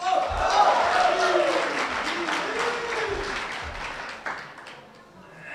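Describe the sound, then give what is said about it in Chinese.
Dense, sustained applause from a large audience at a xiangsheng (Chinese crosstalk) comedy show, a steady wash of clapping that stays loud throughout, with scattered cheers and vocal whoops rising over it. “观众太热情了”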